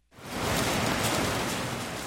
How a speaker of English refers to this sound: Not what you want to hear on an outdoor play's Thursday opening night, a rain and hailstorm swirling right over your stage. The Montana Shakespeare Company's production of Romeo and Juliet cancels the day's show.